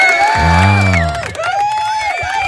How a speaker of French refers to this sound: Un petit peu d'applaudissements.